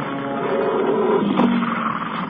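A person's heavy, rasping breaths with a low, guttural rumble, sounding much like the Predator's growl. The sustained noisy texture swells slightly and holds steady throughout, with no talking.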